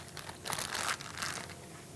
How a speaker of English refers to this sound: All right, so let's get our pork butt into the plastic bag.